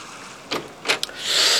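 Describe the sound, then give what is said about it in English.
A horse-drawn bathing machine is pulled by an attendant's horse from the beach at a bathing place out into the surf: a few brief watery splashes and creaks, then a swelling rush of waves. No one speaks. “Yesterday morning I went down to the bathing place with my servant Clinker, who waited on the beach while the attendant had his horse draw the contraption out into the waves.”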